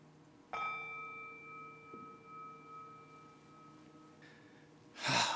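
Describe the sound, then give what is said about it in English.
A single meditation bell is struck once during a group breathing exercise, its clear, steady ringing tone lingering for several seconds and slowly fading away, followed by a soft breath of air at the end. “This time as you exhale, we'll just kind of hold that space until you don't hear the bell any longer.”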